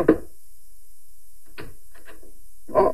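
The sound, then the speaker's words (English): Someone pounds on a wooden back door: a few heavy, irregular thuds spaced across a few seconds, solid, with quiet gaps between blows and no voices. “Nosy old Mrs. Bronson coming around just about now, pounding on the back door.”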